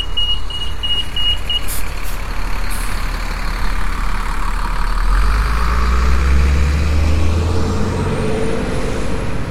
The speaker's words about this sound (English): That was one of those buses that kneels down and lets the wheelchairs on, and that beeping goes on while the bus is going down, and it was kind of a bad design.